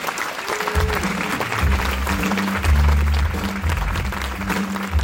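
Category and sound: crowd, audience applause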